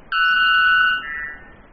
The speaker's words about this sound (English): That incredibly loud song soaring over the quieter birds in the Amazon rainforest belongs to the male white bellbird. At 125 decibels, his short but startling songs are louder than a jackhammer. The white bellbird may be the loudest bird in the world